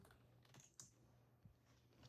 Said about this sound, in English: I was typing and it didn't work.